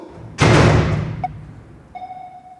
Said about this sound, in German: So, rein in die Mondkapsel damit, die ist nämlich für den Heimflug. So, machen wir die Tür wieder zu.